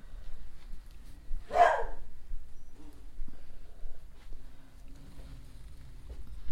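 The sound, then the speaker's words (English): A dog gives one sharp, fairly loud bark about a second and a half in, then only a quiet low room hum and faint rustling follow for the rest. “Hang on, I'm going to shut the door here so the dogs”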